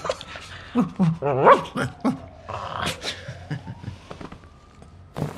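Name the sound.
puppy growling and barking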